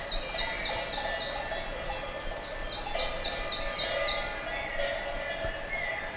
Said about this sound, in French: Et des oiseaux.